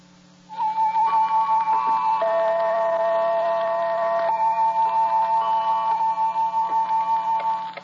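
A clock ticks steadily and rapidly throughout, opening the radio program series The Clock, its even beats running beneath a loud, sustained musical chord that swells in after a brief pause and holds to the end.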